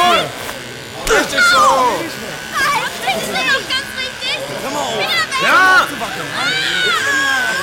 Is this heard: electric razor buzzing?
yes